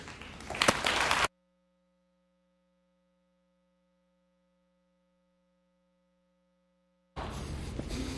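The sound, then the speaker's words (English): A church audience at Willowdale Chapel applauds in a dense wash of clapping that cuts off abruptly after a second, leaving a long near-silence with a faint low hum, then loud applause bursts in again at the end. “Nice of you to clap when you don't have any idea what I'm going to say.”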